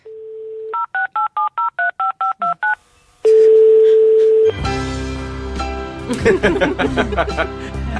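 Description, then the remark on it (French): A steady dial tone gives way to a quick run of about nine evenly spaced keypad beeps, then a ringback tone and a burst of busy, layered sound with music-like tones. “Mais mes contacts dans l'au-delà m'ont donné d'ailleurs un téléphone pour le contacter.”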